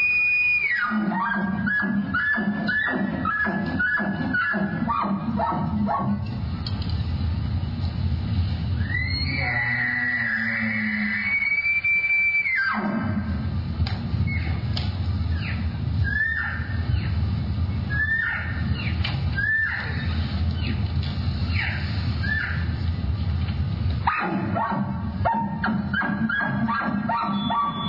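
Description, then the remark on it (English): A 10-time world champion elk caller imitates bull elk calls on stage at the Rocky Mountain Elk Foundation Elk Camp and Mountain Festival in Park City, Utah, in the performance that won his 10th World Championship: high, sliding bugles break into rapid grunting chuckles, with shrill whistling squeals and squeaky mews over nearly half a minute, loud. “10-time world champion elk caller”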